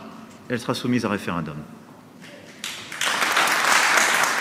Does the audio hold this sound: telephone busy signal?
no